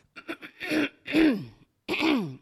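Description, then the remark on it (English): A voice imitates a man clearing his throat at dinner: a few quick raspy huffs, then three longer, strained guttural hacks with rising and falling pitch, fairly loud, with no other talk. “He's in town, and he starts kind of clearing his throat.”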